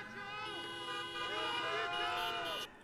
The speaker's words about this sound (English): When Biden said something they liked, they just honked their horns.